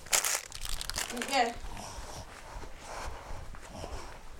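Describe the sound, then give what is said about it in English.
Paper crinkling and crumpling in several quick bursts, followed by a softer rustle and a light thud as it drops into a bin, with faint speech in the background. “Where does your paper go? In the bin.”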